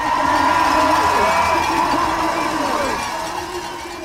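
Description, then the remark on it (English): A dense, loud roar of thousands of cheering fans watching the world's best women ski racers rocket down a wall of ice in slalom and giant slalom races, many voices blending into a steady wash of noise that fades slightly toward the end. “Thousands of roaring fans watching the best women ski racers in the world rocket down a wall of ice”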